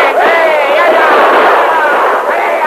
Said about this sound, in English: Others went down under the devastating fire of the sheriff's men and the Lone Ranger. "Hold down your gunfire. You're still alive."